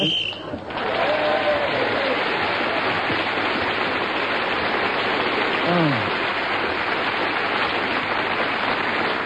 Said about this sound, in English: I think that applause was for your deprived childhood, Fred, as much as anything else.